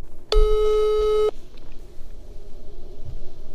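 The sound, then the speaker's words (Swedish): A single steady telephone ringing tone as a call is placed to the man who runs a fan website, a mid-pitched hum lasting about one second, then the line falls to a low hiss with no voices. “Så vi ringer till honom och kollar.”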